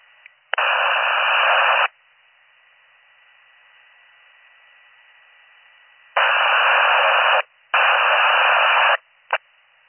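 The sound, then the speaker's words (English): Harsh bursts of static hiss on and off over a county fire department radio channel: a long burst, a pause of faint hum, then two more bursts back to back and a brief final crackle. No one speaks. “If you're calling county, it was off static.”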